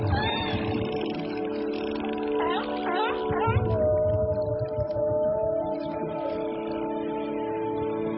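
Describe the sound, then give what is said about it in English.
Underwater whale calls: drawn-out, moaning tones with rising, swooping cries that blend into one another over a low, constant rumble, fairly loud and continuous throughout. “In the darkness of the sea, whales, dolphins, and other marine animals use sound to navigate while migrating, to locate each other over great distances for mating, to find food, avoid predators, and care for their young.”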